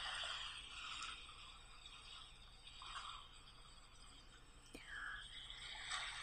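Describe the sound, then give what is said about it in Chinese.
Soft sea waves wash up over sand in gentle, hissing surges, a couple of swells rising and receding against a quiet, steady background with no voices, washing away a name just written in the sand. “刚写完，不是就被冲走了吗？”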